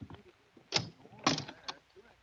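closet door being opened

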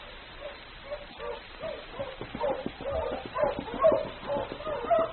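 sled dog huskies barking

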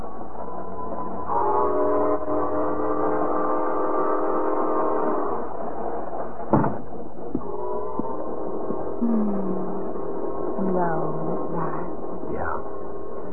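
train

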